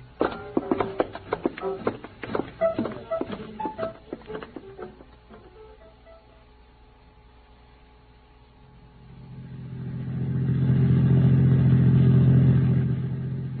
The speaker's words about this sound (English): Get the car started.